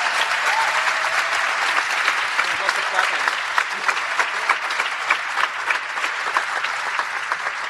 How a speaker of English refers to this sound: Please give these four a big round of applause and a welcome.